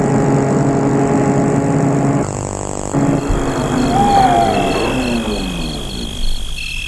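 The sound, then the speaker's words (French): A chauffeur-driven car's engine rumbles steadily, its low droning tone shifting briefly partway through, then settles as the vehicle comes to a halt at a residence on a quiet little street, the property surrounded by a high wall with a wooden gate. No one speaks. “Le chauffeur sort de voiture pour sonner à l'interphone.”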